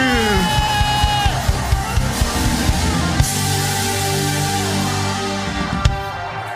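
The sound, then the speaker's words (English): A loud crowd screams and cheers continuously, voices overlapping in a dense roar, with rhythmic thumps pulsing underneath throughout. “Somebody scream!”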